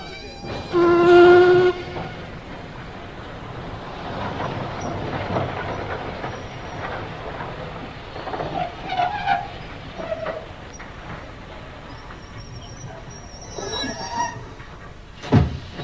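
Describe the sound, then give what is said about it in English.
A train rumbles steadily along the rails with rhythmic clattering and occasional metallic squeals, opening with a brief tonal whistle-like blast; the sound is continuous, with no one speaking. “I thought you would be, seeing as you're the only one to get off the train.”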